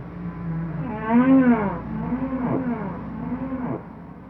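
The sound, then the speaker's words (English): Long, deep moaning calls of humpback whale song in the ocean, rising and falling in slow sweeps with a brief higher cry, sounding resonant, with no voices. “So humpback whale song is a means of communication, and it can move between different pods of humpback whales, which can be, you know, miles and miles apart.”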